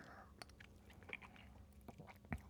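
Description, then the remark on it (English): Soft mouth sounds of someone sipping a spicy, whiskey-like drink: faint wet clicks and a small swallow, with a sharper click near the end, and no talking. “Okay, so my turn here. I'm going to take a sip.”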